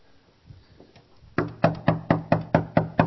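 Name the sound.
knocking on a door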